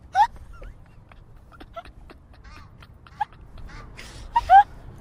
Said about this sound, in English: No, it's something else. It's a goose. It was you, wasn't it? It was a goose. Really? Yeah, it really was a goose, sorry.